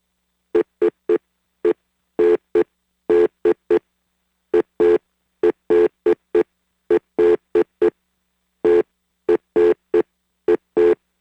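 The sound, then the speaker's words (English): Telephone keypad dialing beeps, about two dozen short tones at one identical mid pitch, tapped out in quick irregular bursts with brief pauses between groups, loud and clear with no talking. “Dialing the number now. And yeah, you can't tell what the number is because all these beeps sound the same.”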